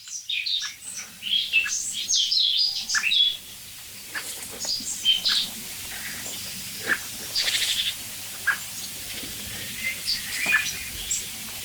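bird, blackbird singing

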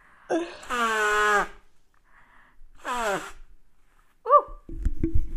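human body sound, nose blowing

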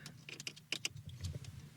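household object, car keys jangling

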